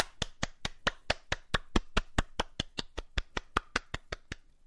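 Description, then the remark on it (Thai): Steady hand clapping, about twenty crisp, evenly spaced claps over several seconds, fairly loud with no talking, ending abruptly. “คุณผู้ฟังปรบมือเราปรบมือทำไมเพราะว่าเมื่อกี้นี้เราสามารถพูดสโลแกนพูดชื่อรายการพูดผู้ดำเนินรายการได้เสร็จสมบูรณ์ภายในครั้งเดียวปรบมืออีกรอบ”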